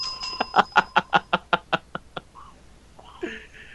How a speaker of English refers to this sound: I'm ringing the bell.